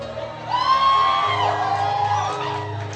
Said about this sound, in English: Don't just clap. Oh, many clapped like this.